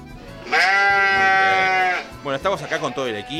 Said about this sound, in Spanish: Hola, a ver, imitate una vaca, a ver. Es la única oveja de todo el mundo que sabe imitar vacas. De nuevo, mira.